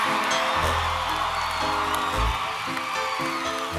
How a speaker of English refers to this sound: Can I please hear a big round of applause for my male dancers?